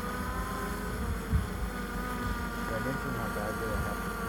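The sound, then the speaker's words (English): A flying drone with its battery at 40% gives a steady, high-pitched propeller whirring for several seconds, an unbroken mechanical buzz with layered harmonic tones, with faint murmuring voices and a soft thump underneath. “I don't want to be responsible for the death of this drone.”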